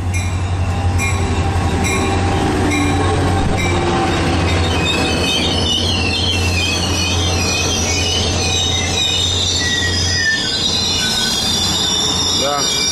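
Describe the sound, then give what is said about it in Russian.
A train rolls into a station along a platform with a yellow safety line, its wheels squealing in high, wavering tones over a deep steady rumble of the engine, continuing throughout as it slows. “Мы отходим, тут желтая полоса, надо стоять за желтой полосой. Вот он идет, идет, идет, идет, вот.”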